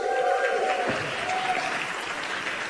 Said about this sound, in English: folks, give them a huge round of applause.